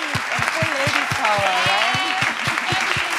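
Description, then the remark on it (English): An audience applauds the panelists at the close of a panel discussion, a dense wash of clapping with a regular pulse of louder claps, while voices carry on over the top throughout. “And please give a big round of applause for our wonderful panelists.”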